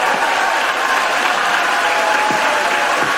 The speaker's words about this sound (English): Now, here's Kamala Harris announcing the vote, and suddenly you have Mitt Romney on his feet cheering.